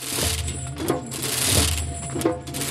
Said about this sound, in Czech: Společně s tesáním připravují divadelníci ze skupiny Víti Marčíka tradiční hrkání. Symbolizovat má odlet zvonů do Říma na Zelený čtvrtek.